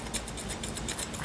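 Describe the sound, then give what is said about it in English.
Scissors snip through tape to cut a little piece, in a quick run of about eight crisp cuts, each a short bright rasp repeating at a steady rhythm without any talking. “And I'll need a little piece of that tape there. Not a pretty cut.”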